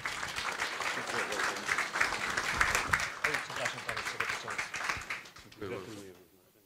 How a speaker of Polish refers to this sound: Brawa dla pana dyrektora.